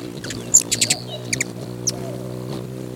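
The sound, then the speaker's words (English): Songbirds at Songbird Meadows chirp in short, bright bursts: a quick cluster of high tweets followed by a few scattered calls, all over a steady low humming drone. Nobody speaks. “Today, their place, Songbird Meadows, is alive with the sound of birds.”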